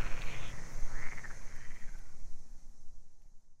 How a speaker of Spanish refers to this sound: Cuentan que hace unos años se escuchaba mucha más vida en el campo. El croar de las ranas, el zumbido de los insectos o el estrídulo de las cigarras.